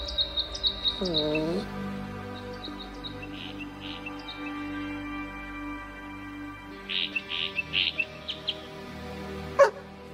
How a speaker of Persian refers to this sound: فکر کنم اون پرنده کوچولو الان بهت گفت مخفیگاه کجاست.